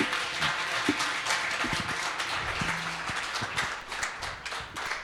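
An audience applauds steadily for the full five seconds, a dense, even wash of many hands clapping with occasional sharper individual claps standing out. No one speaks over it.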